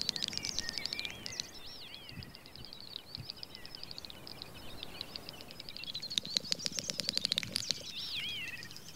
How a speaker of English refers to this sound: It's the courtship song of the great snipe. This bird doesn't hit top form until after nightfall.